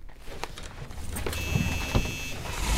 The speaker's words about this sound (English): Let me at least move the van to a better spot.